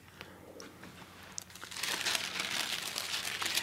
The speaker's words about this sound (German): Wehmütig lächelnd blättert sie in den vergilbten Seiten.